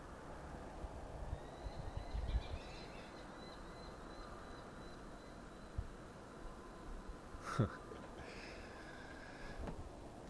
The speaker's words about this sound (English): So that's the screaming hawk that lives in the tree and visits us every spring. Kills a few rodents, screams about it, or maybe he's just screaming for companionship or something, I don't know.